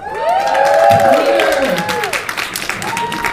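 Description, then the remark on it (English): A large crowd at a Walt Disney Animation film event applauds with dense, steady clapping as the filmmakers come onstage, while high whoops and cheers rise and fall over it, loud, sustained throughout. “Come join this enthusiastic crowd that's so excited to be here.”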